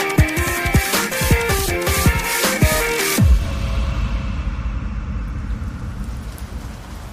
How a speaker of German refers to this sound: Mann, ist das wieder ein Dreckswetter hier in Paris. Es regnet volle Kanne.